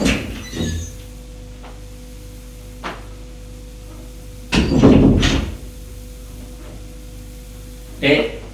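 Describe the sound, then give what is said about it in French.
A door opens again with a broad, rumbling scrape mid-way, bracketed by a few sharp knocks and clicks, all over a steady low hum. “La porte se rouvre.”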